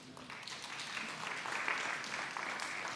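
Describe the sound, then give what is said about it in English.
An audience applauds and cheers in a dense, steady wash of clapping with voices calling out, holding at a fairly even loudness for about three seconds. “Yeah, they need a lot of cheering because they're going to need it.”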